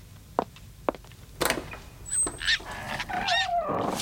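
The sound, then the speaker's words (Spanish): A piglet getting under someone's feet squeals in short, high, wavering bursts near the end, after a few sharp clicks and a brief rustling thump, with no one talking. “¡Ay, cochinito! No me molestes, que me haces tropezar con las granadas.”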